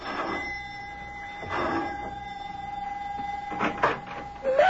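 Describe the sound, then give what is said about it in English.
A doorbell at a house is pressed and rings with a steady, buzzing electric tone that carries on for several seconds, broken by a few brief clunks and rattles, with nobody speaking. “Mac presses the doorbell at his house in answer to the professor's elated phone call”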